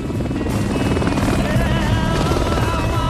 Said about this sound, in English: On the chute, the chopper flies right up behind the two cars, almost touching them.